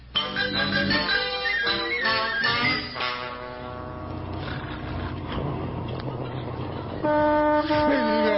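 A truck rumbles past with loud, blaring horn-like tones that shift in pitch, a steady low engine drone underneath and a final sustained blast at the end.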